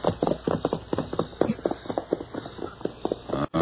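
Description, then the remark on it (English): A pony's hooves clatter in quick, uneven clip-clops as it nudges two steers away from a cattle herd, the steady hoofbeats continuing throughout. “His pony handles steers plenty good.”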